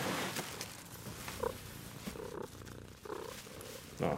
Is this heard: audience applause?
no